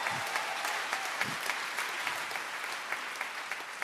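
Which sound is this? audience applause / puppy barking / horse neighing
audience applause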